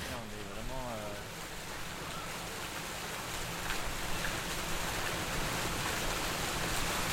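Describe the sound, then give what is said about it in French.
A steady, dense patter like falling rain fills the whole recording, even, growing slightly louder midway; a voice briefly speaks at the very start. It comes from an outdoor sound installation in the Parc de la Villette, dripping down its stairs. “De la pluie, en fait. Ouais. Mais sans nuages.”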